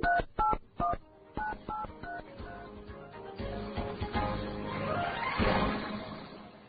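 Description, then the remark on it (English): A quick series of cell phone keypad tones beeps out as someone dials a call to ask for directions, several short dual-tone presses in a row, then fades into a busier electronic wash of sound with no voices. “Time to put my cell phone to good use. I'm calling to ask for directions.”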